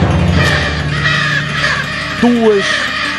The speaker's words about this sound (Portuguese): dezenas de aves coloridas voam em bandos. Barulhentas e famintas. Partem em busca de comida.